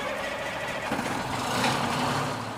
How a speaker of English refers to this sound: Big trucks like these may move out soon, loaded with supplies or members of the South Carolina National Guard, to bring help to hospitals or other facilities across South Carolina that are dealing with the coronavirus outbreak.